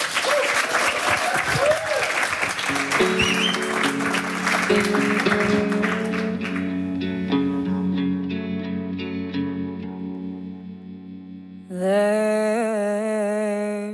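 A crowd claps and cheers in a dense, steady burst of applause that fades out over several seconds as sustained electronic music tones swell underneath and take over.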